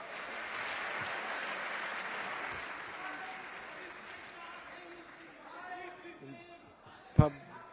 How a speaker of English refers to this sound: The audience is shouting, that's not an operating system.